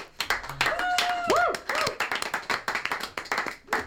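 An audience claps in a dense, steady burst of applause lasting a few seconds after a live band's performance of a love song, with a couple of high whoops or whistles rising and falling above the clapping early on.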